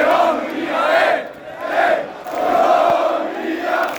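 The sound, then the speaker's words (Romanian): Thousands of football supporters, adults and children dressed in yellow, cheer and chant in Piața Universității in rhythmic, swelling waves, voices rising and falling together in a loud, continuous celebratory roar with sung phrases, celebrating the national team's qualification for the round of 16 of the European Championship. “Imediat după meci, piața Universității s-a umplut de mii de suporteri, adulți și copii îmbrăcați în galben, care au cântat de bucurie că Naționala de Fotbal s-a calificat în optimile campionatului european.”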